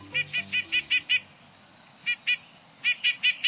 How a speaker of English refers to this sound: Have you noticed a sleek, stub-tailed bird pecking its way down a tree trunk? It's probably a nuthatch.